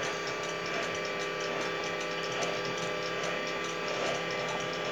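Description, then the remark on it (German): A roller shutter rattles steadily downward, its slats clicking in a fast, even ratcheting rhythm over a continuous mechanical whir, with no voices. “Jetzt gibt es ein bisschen Störgeräusch, weil mir der Rollladen runterkommt, aber lass es einfach durch dich durch.”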